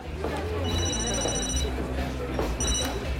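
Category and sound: signal or alarm, mobile phone ringing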